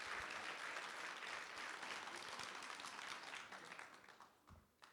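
A crowd claps in sustained applause, dense and steady, then gradually thins and fades out over the last second or so.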